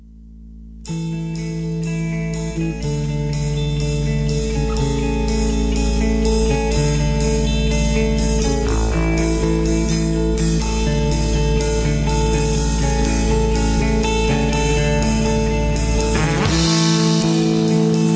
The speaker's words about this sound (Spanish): pues hagamos una breve pausita musical. Te pongo un temita aquí